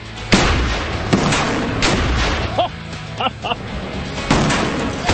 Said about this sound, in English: And that is an explosion in water.